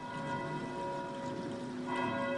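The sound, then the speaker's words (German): A church bell rings steadily with a rich, sustained metallic tone, its overlapping strikes blending into a continuous humming resonance with bright overtones throughout. “Früher, wenn Feuer war, dann wurde auch immer die Glocke geläutet.”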